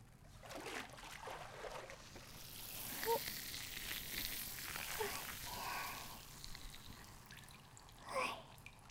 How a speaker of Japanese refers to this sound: シュワシュワ全部流しちゃうね。